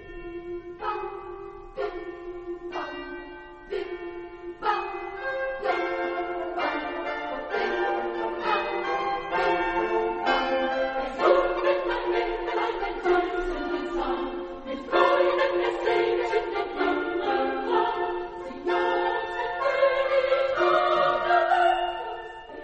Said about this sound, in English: whence comes this bell ringing?